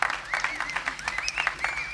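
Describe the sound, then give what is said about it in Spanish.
An audience applauds to welcome the radio operators of Radiodifusión Argentina al Exterior (RAE) at a live broadcast: steady, dense clapping throughout, while a few high voices or whistle-like cheers rise and fall above the clapping. “Si ustedes quieren recibirlos con un aplauso, bienvenido sea.”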